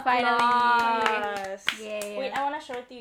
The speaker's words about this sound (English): Applause. Yay.